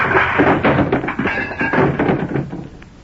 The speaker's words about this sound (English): He toppled sideways and fell from his chair.